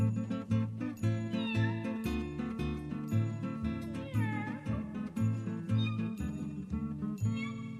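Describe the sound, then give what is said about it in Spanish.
A cat meows a few times, its drawn-out cries rising and falling over a loud, steady musical backing with a pulsing bass beat. “Sus ladridos y maullidos te reciben al llegar.”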